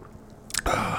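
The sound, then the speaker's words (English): A wet sip of an Overkill Imperial Black IPA beer from Blacks: a brief airy slurp followed by a loud, hissing rush of liquid and breath that carries to the end, with no talking. “Let me have a sip.”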